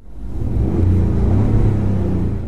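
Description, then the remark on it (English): A Ford F-150 pickup truck's engine, with its engine sound electronically enhanced, gives a deep, steady rumble with a low droning hum, holding loud and even for a couple of seconds, as if heard from inside the vehicle while driving. “Here is the sound, enhanced, if you will.”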